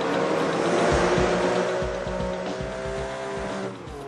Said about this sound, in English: They use surround sound to great effect. For example, in Project Gotham Racing 3, you can hear a car passing you from behind and to the left.